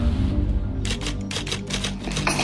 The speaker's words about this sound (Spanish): Por eso siempre he preferido el papel y la máquina de escribir.